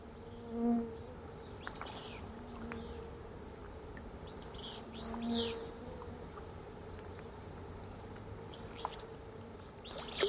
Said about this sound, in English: It's late afternoon at a remote mountain lake. Songbirds chorus in the distance. Insects are swarming near the surface of the water, and the trout rise up to feed on them.